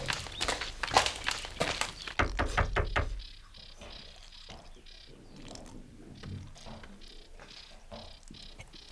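A quick burst of sharp knocks on a door in India, then slower, uneven footsteps drawing closer, moderately quiet and hard-soled, with a faint mechanical clatter around them.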